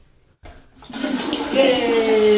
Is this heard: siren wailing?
no